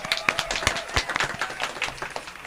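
A short burst of applause: many hands clapping at once in a dense, irregular patter of sharp claps that stays fairly steady in loudness for a couple of seconds, with no voices.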